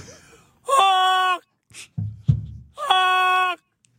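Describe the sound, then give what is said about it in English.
Actor Gary Busey, in his car, imitates a goose's honking call as a Christmas greeting: two loud, drawn-out, nasal honks, each lasting most of a second, with short breathy gasps and grunts in between. “That's what a goose sounds like.”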